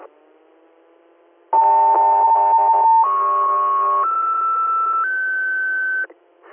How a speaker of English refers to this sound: 3, you're standby for Tones.